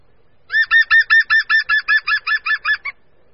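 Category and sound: bird, green woodpecker call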